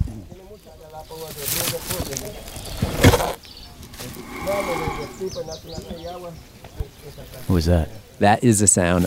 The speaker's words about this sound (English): That is the sound of a tortoise breathing. That's cool.